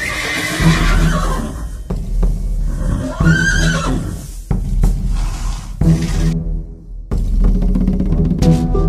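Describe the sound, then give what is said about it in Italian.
A horse neighs loudly, a long shrill whinny rising and falling, followed by snorts and shorter whinnies over a steady rumbling background, with no one speaking. “Pegaso Nitrie si alzò in volo, portando tra le amate nubi del cielo il principe Bellerofonte.”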